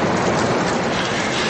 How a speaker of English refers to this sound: The guys ran into the darkness, into the rain, into the wind, into the danger. They ran toward the light and at last made it to the house. They took shelter from the storm by leaning up against the wall, out of the wind.